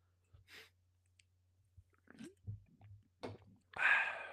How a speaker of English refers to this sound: Just had a little sip of the bubbly.